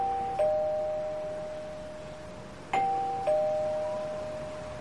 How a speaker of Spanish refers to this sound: Toquemos el timbre.